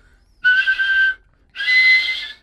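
A human whistler performs a double whistle in a studio: two sustained whistled tones, each under a second long and separated by a short pause, loud. Both are bright and steady with a slight wavering quality, and nothing else is heard.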